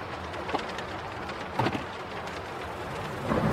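Heavy rain pours down beside a street in a dense, continuous hiss, with a few brief louder spatters and a low background rumble; no voices are heard.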